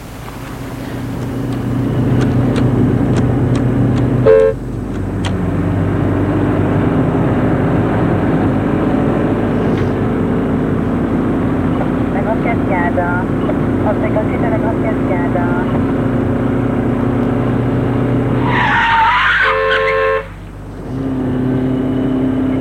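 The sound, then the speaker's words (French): A taxi's engine hums steadily as it drives through traffic toward Place de l'Étoile, with a short, sharp horn blast early on and a longer, louder honk near the end. “Ils entrent dans un taxi, Monsieur Janju donne l'adresse, place de l'Étoile.”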